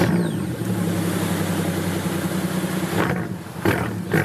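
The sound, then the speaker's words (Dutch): A powerful AMG V12 car engine rumbles loudly and steadily, with a deep droning roar that surges in short revs near the end. No one speaks. “Dit is de V12, de V8 klinkt nog beter.”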